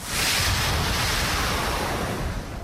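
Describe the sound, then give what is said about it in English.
A heavy rush of water poured from a barrel onto a sacrifice, in one continuous, loud splash lasting a couple of seconds before tapering slightly at the end. “They pour it on the sacrifice. Und sie gießen sie auf das Opfer. One barrel of water.”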